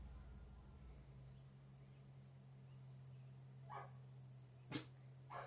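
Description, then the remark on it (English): A dog next door barks a couple of times, two short sharp yaps a second apart, over a steady low electrical hum with no one talking. “Goddamn barking dogs.”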